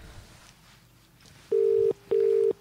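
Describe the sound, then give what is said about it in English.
An English telephone tone: two steady, loud, mid-low beeps, each under half a second, separated by a short gap, after a faint, quiet background hiss. “Again, it sounds like an English dial tone.”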